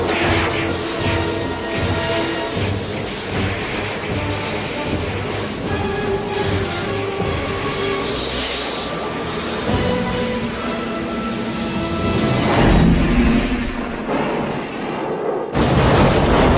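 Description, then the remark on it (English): A loud, sustained roar of crashing and explosions with rumbling debris, building to a heavy blast near the end, as a train crashes and goes off a cliff in a film scene, with no talking. “And then the train crashes.”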